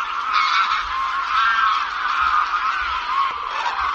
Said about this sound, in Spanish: No tiene nada que ver las marismas o el entorno de Doñana en invierno cuando en otros inviernos decenas, centenares de miles de aves acuáticas estaban allí vocingleando, gritando.